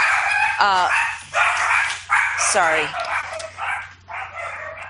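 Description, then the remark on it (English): Several of the speaker's own small dogs bark rapidly and overlapping in a high-pitched, yappy flurry, loud, with a low steady hum underneath. “Sorry about that. That's my little dogs.”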